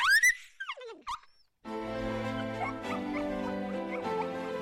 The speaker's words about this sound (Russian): Но вдруг собака с громким визгом захрипела и начала барахтаться, словно борясь за жизнь. Не имея времени на раздумья о причинах произошедшего, я с испугом смотрела на задыхавшуюся собаку.